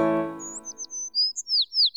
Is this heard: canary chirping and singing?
yes